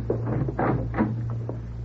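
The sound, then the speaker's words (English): A door to a storeroom creaks and scrapes open in a few uneven, grinding bursts over a steady low hum, with no voices present. “I wonder what's behind this door.”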